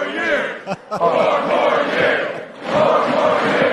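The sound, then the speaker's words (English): A large crowd chants "four more years" in unison, loud, the massed voices rising in rhythmic phrases with brief breaks between repetitions. “he was supposed to stop talking and let the crowd pick up the chant from him. Four more years.”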